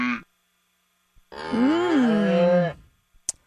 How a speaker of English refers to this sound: But I can't figure out why a week ago we needed cow sound effects.